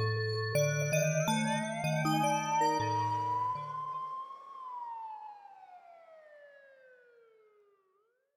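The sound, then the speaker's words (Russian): A police car siren wails, its tone sliding slowly upward and then drawing down as it fades, with stepped electronic tones sounding beneath it during the first few seconds. “Звук полиции за нами дышит прям в спину.”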